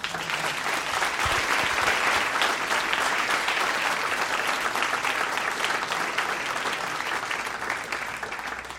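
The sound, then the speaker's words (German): Sustained audience applause welcoming a guest, a dense steady wash of many hands clapping at a constant loudness for several seconds, with no voices standing out. “Deinen Applaus.”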